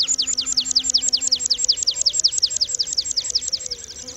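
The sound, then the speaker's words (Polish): A male bird descending on motionless wings during its display flight sings a long, monotonous series of near-identical high descending notes, repeated rapidly and evenly about five times per second, clear, with faint low background hum. “Potem ptak zaczyna opadać na nieruchomych skrzydłach, a jego głos przechodzi w długie, jednostajne serie podobnych dźwięków.”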